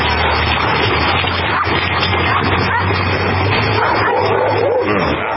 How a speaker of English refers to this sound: is a dog pool party, and there's some sound from it. You got to see it, though. It's exactly what it sounds like. Bunch of dogs swimming and playing in a pool.